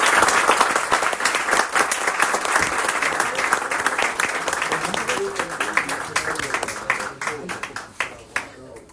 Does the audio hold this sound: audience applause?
yes